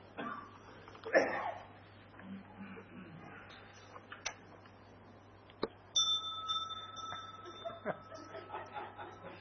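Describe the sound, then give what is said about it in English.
A single bell is struck once to signal the start of a speaker's talk and rings on with a long, clear, fading tone, heard over a murmur of people talking and some quiet laughter. “Sounds the bell for the start, not yet for the end.”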